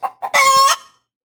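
sound effect, rooster crowing sound effect

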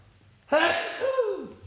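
human body sound, sneeze

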